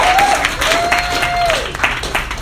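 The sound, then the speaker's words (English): Steady, dense applause from a comedy show audience welcoming the host, with a couple of sustained high whistles cutting through, one short and one long. No one speaks over it. “All right, let's give it up for your host,”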